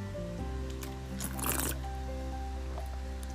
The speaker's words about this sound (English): Podcast before bed, you know, just took a swig of water.